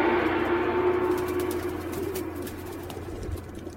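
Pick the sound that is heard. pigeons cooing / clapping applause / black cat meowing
pigeons cooing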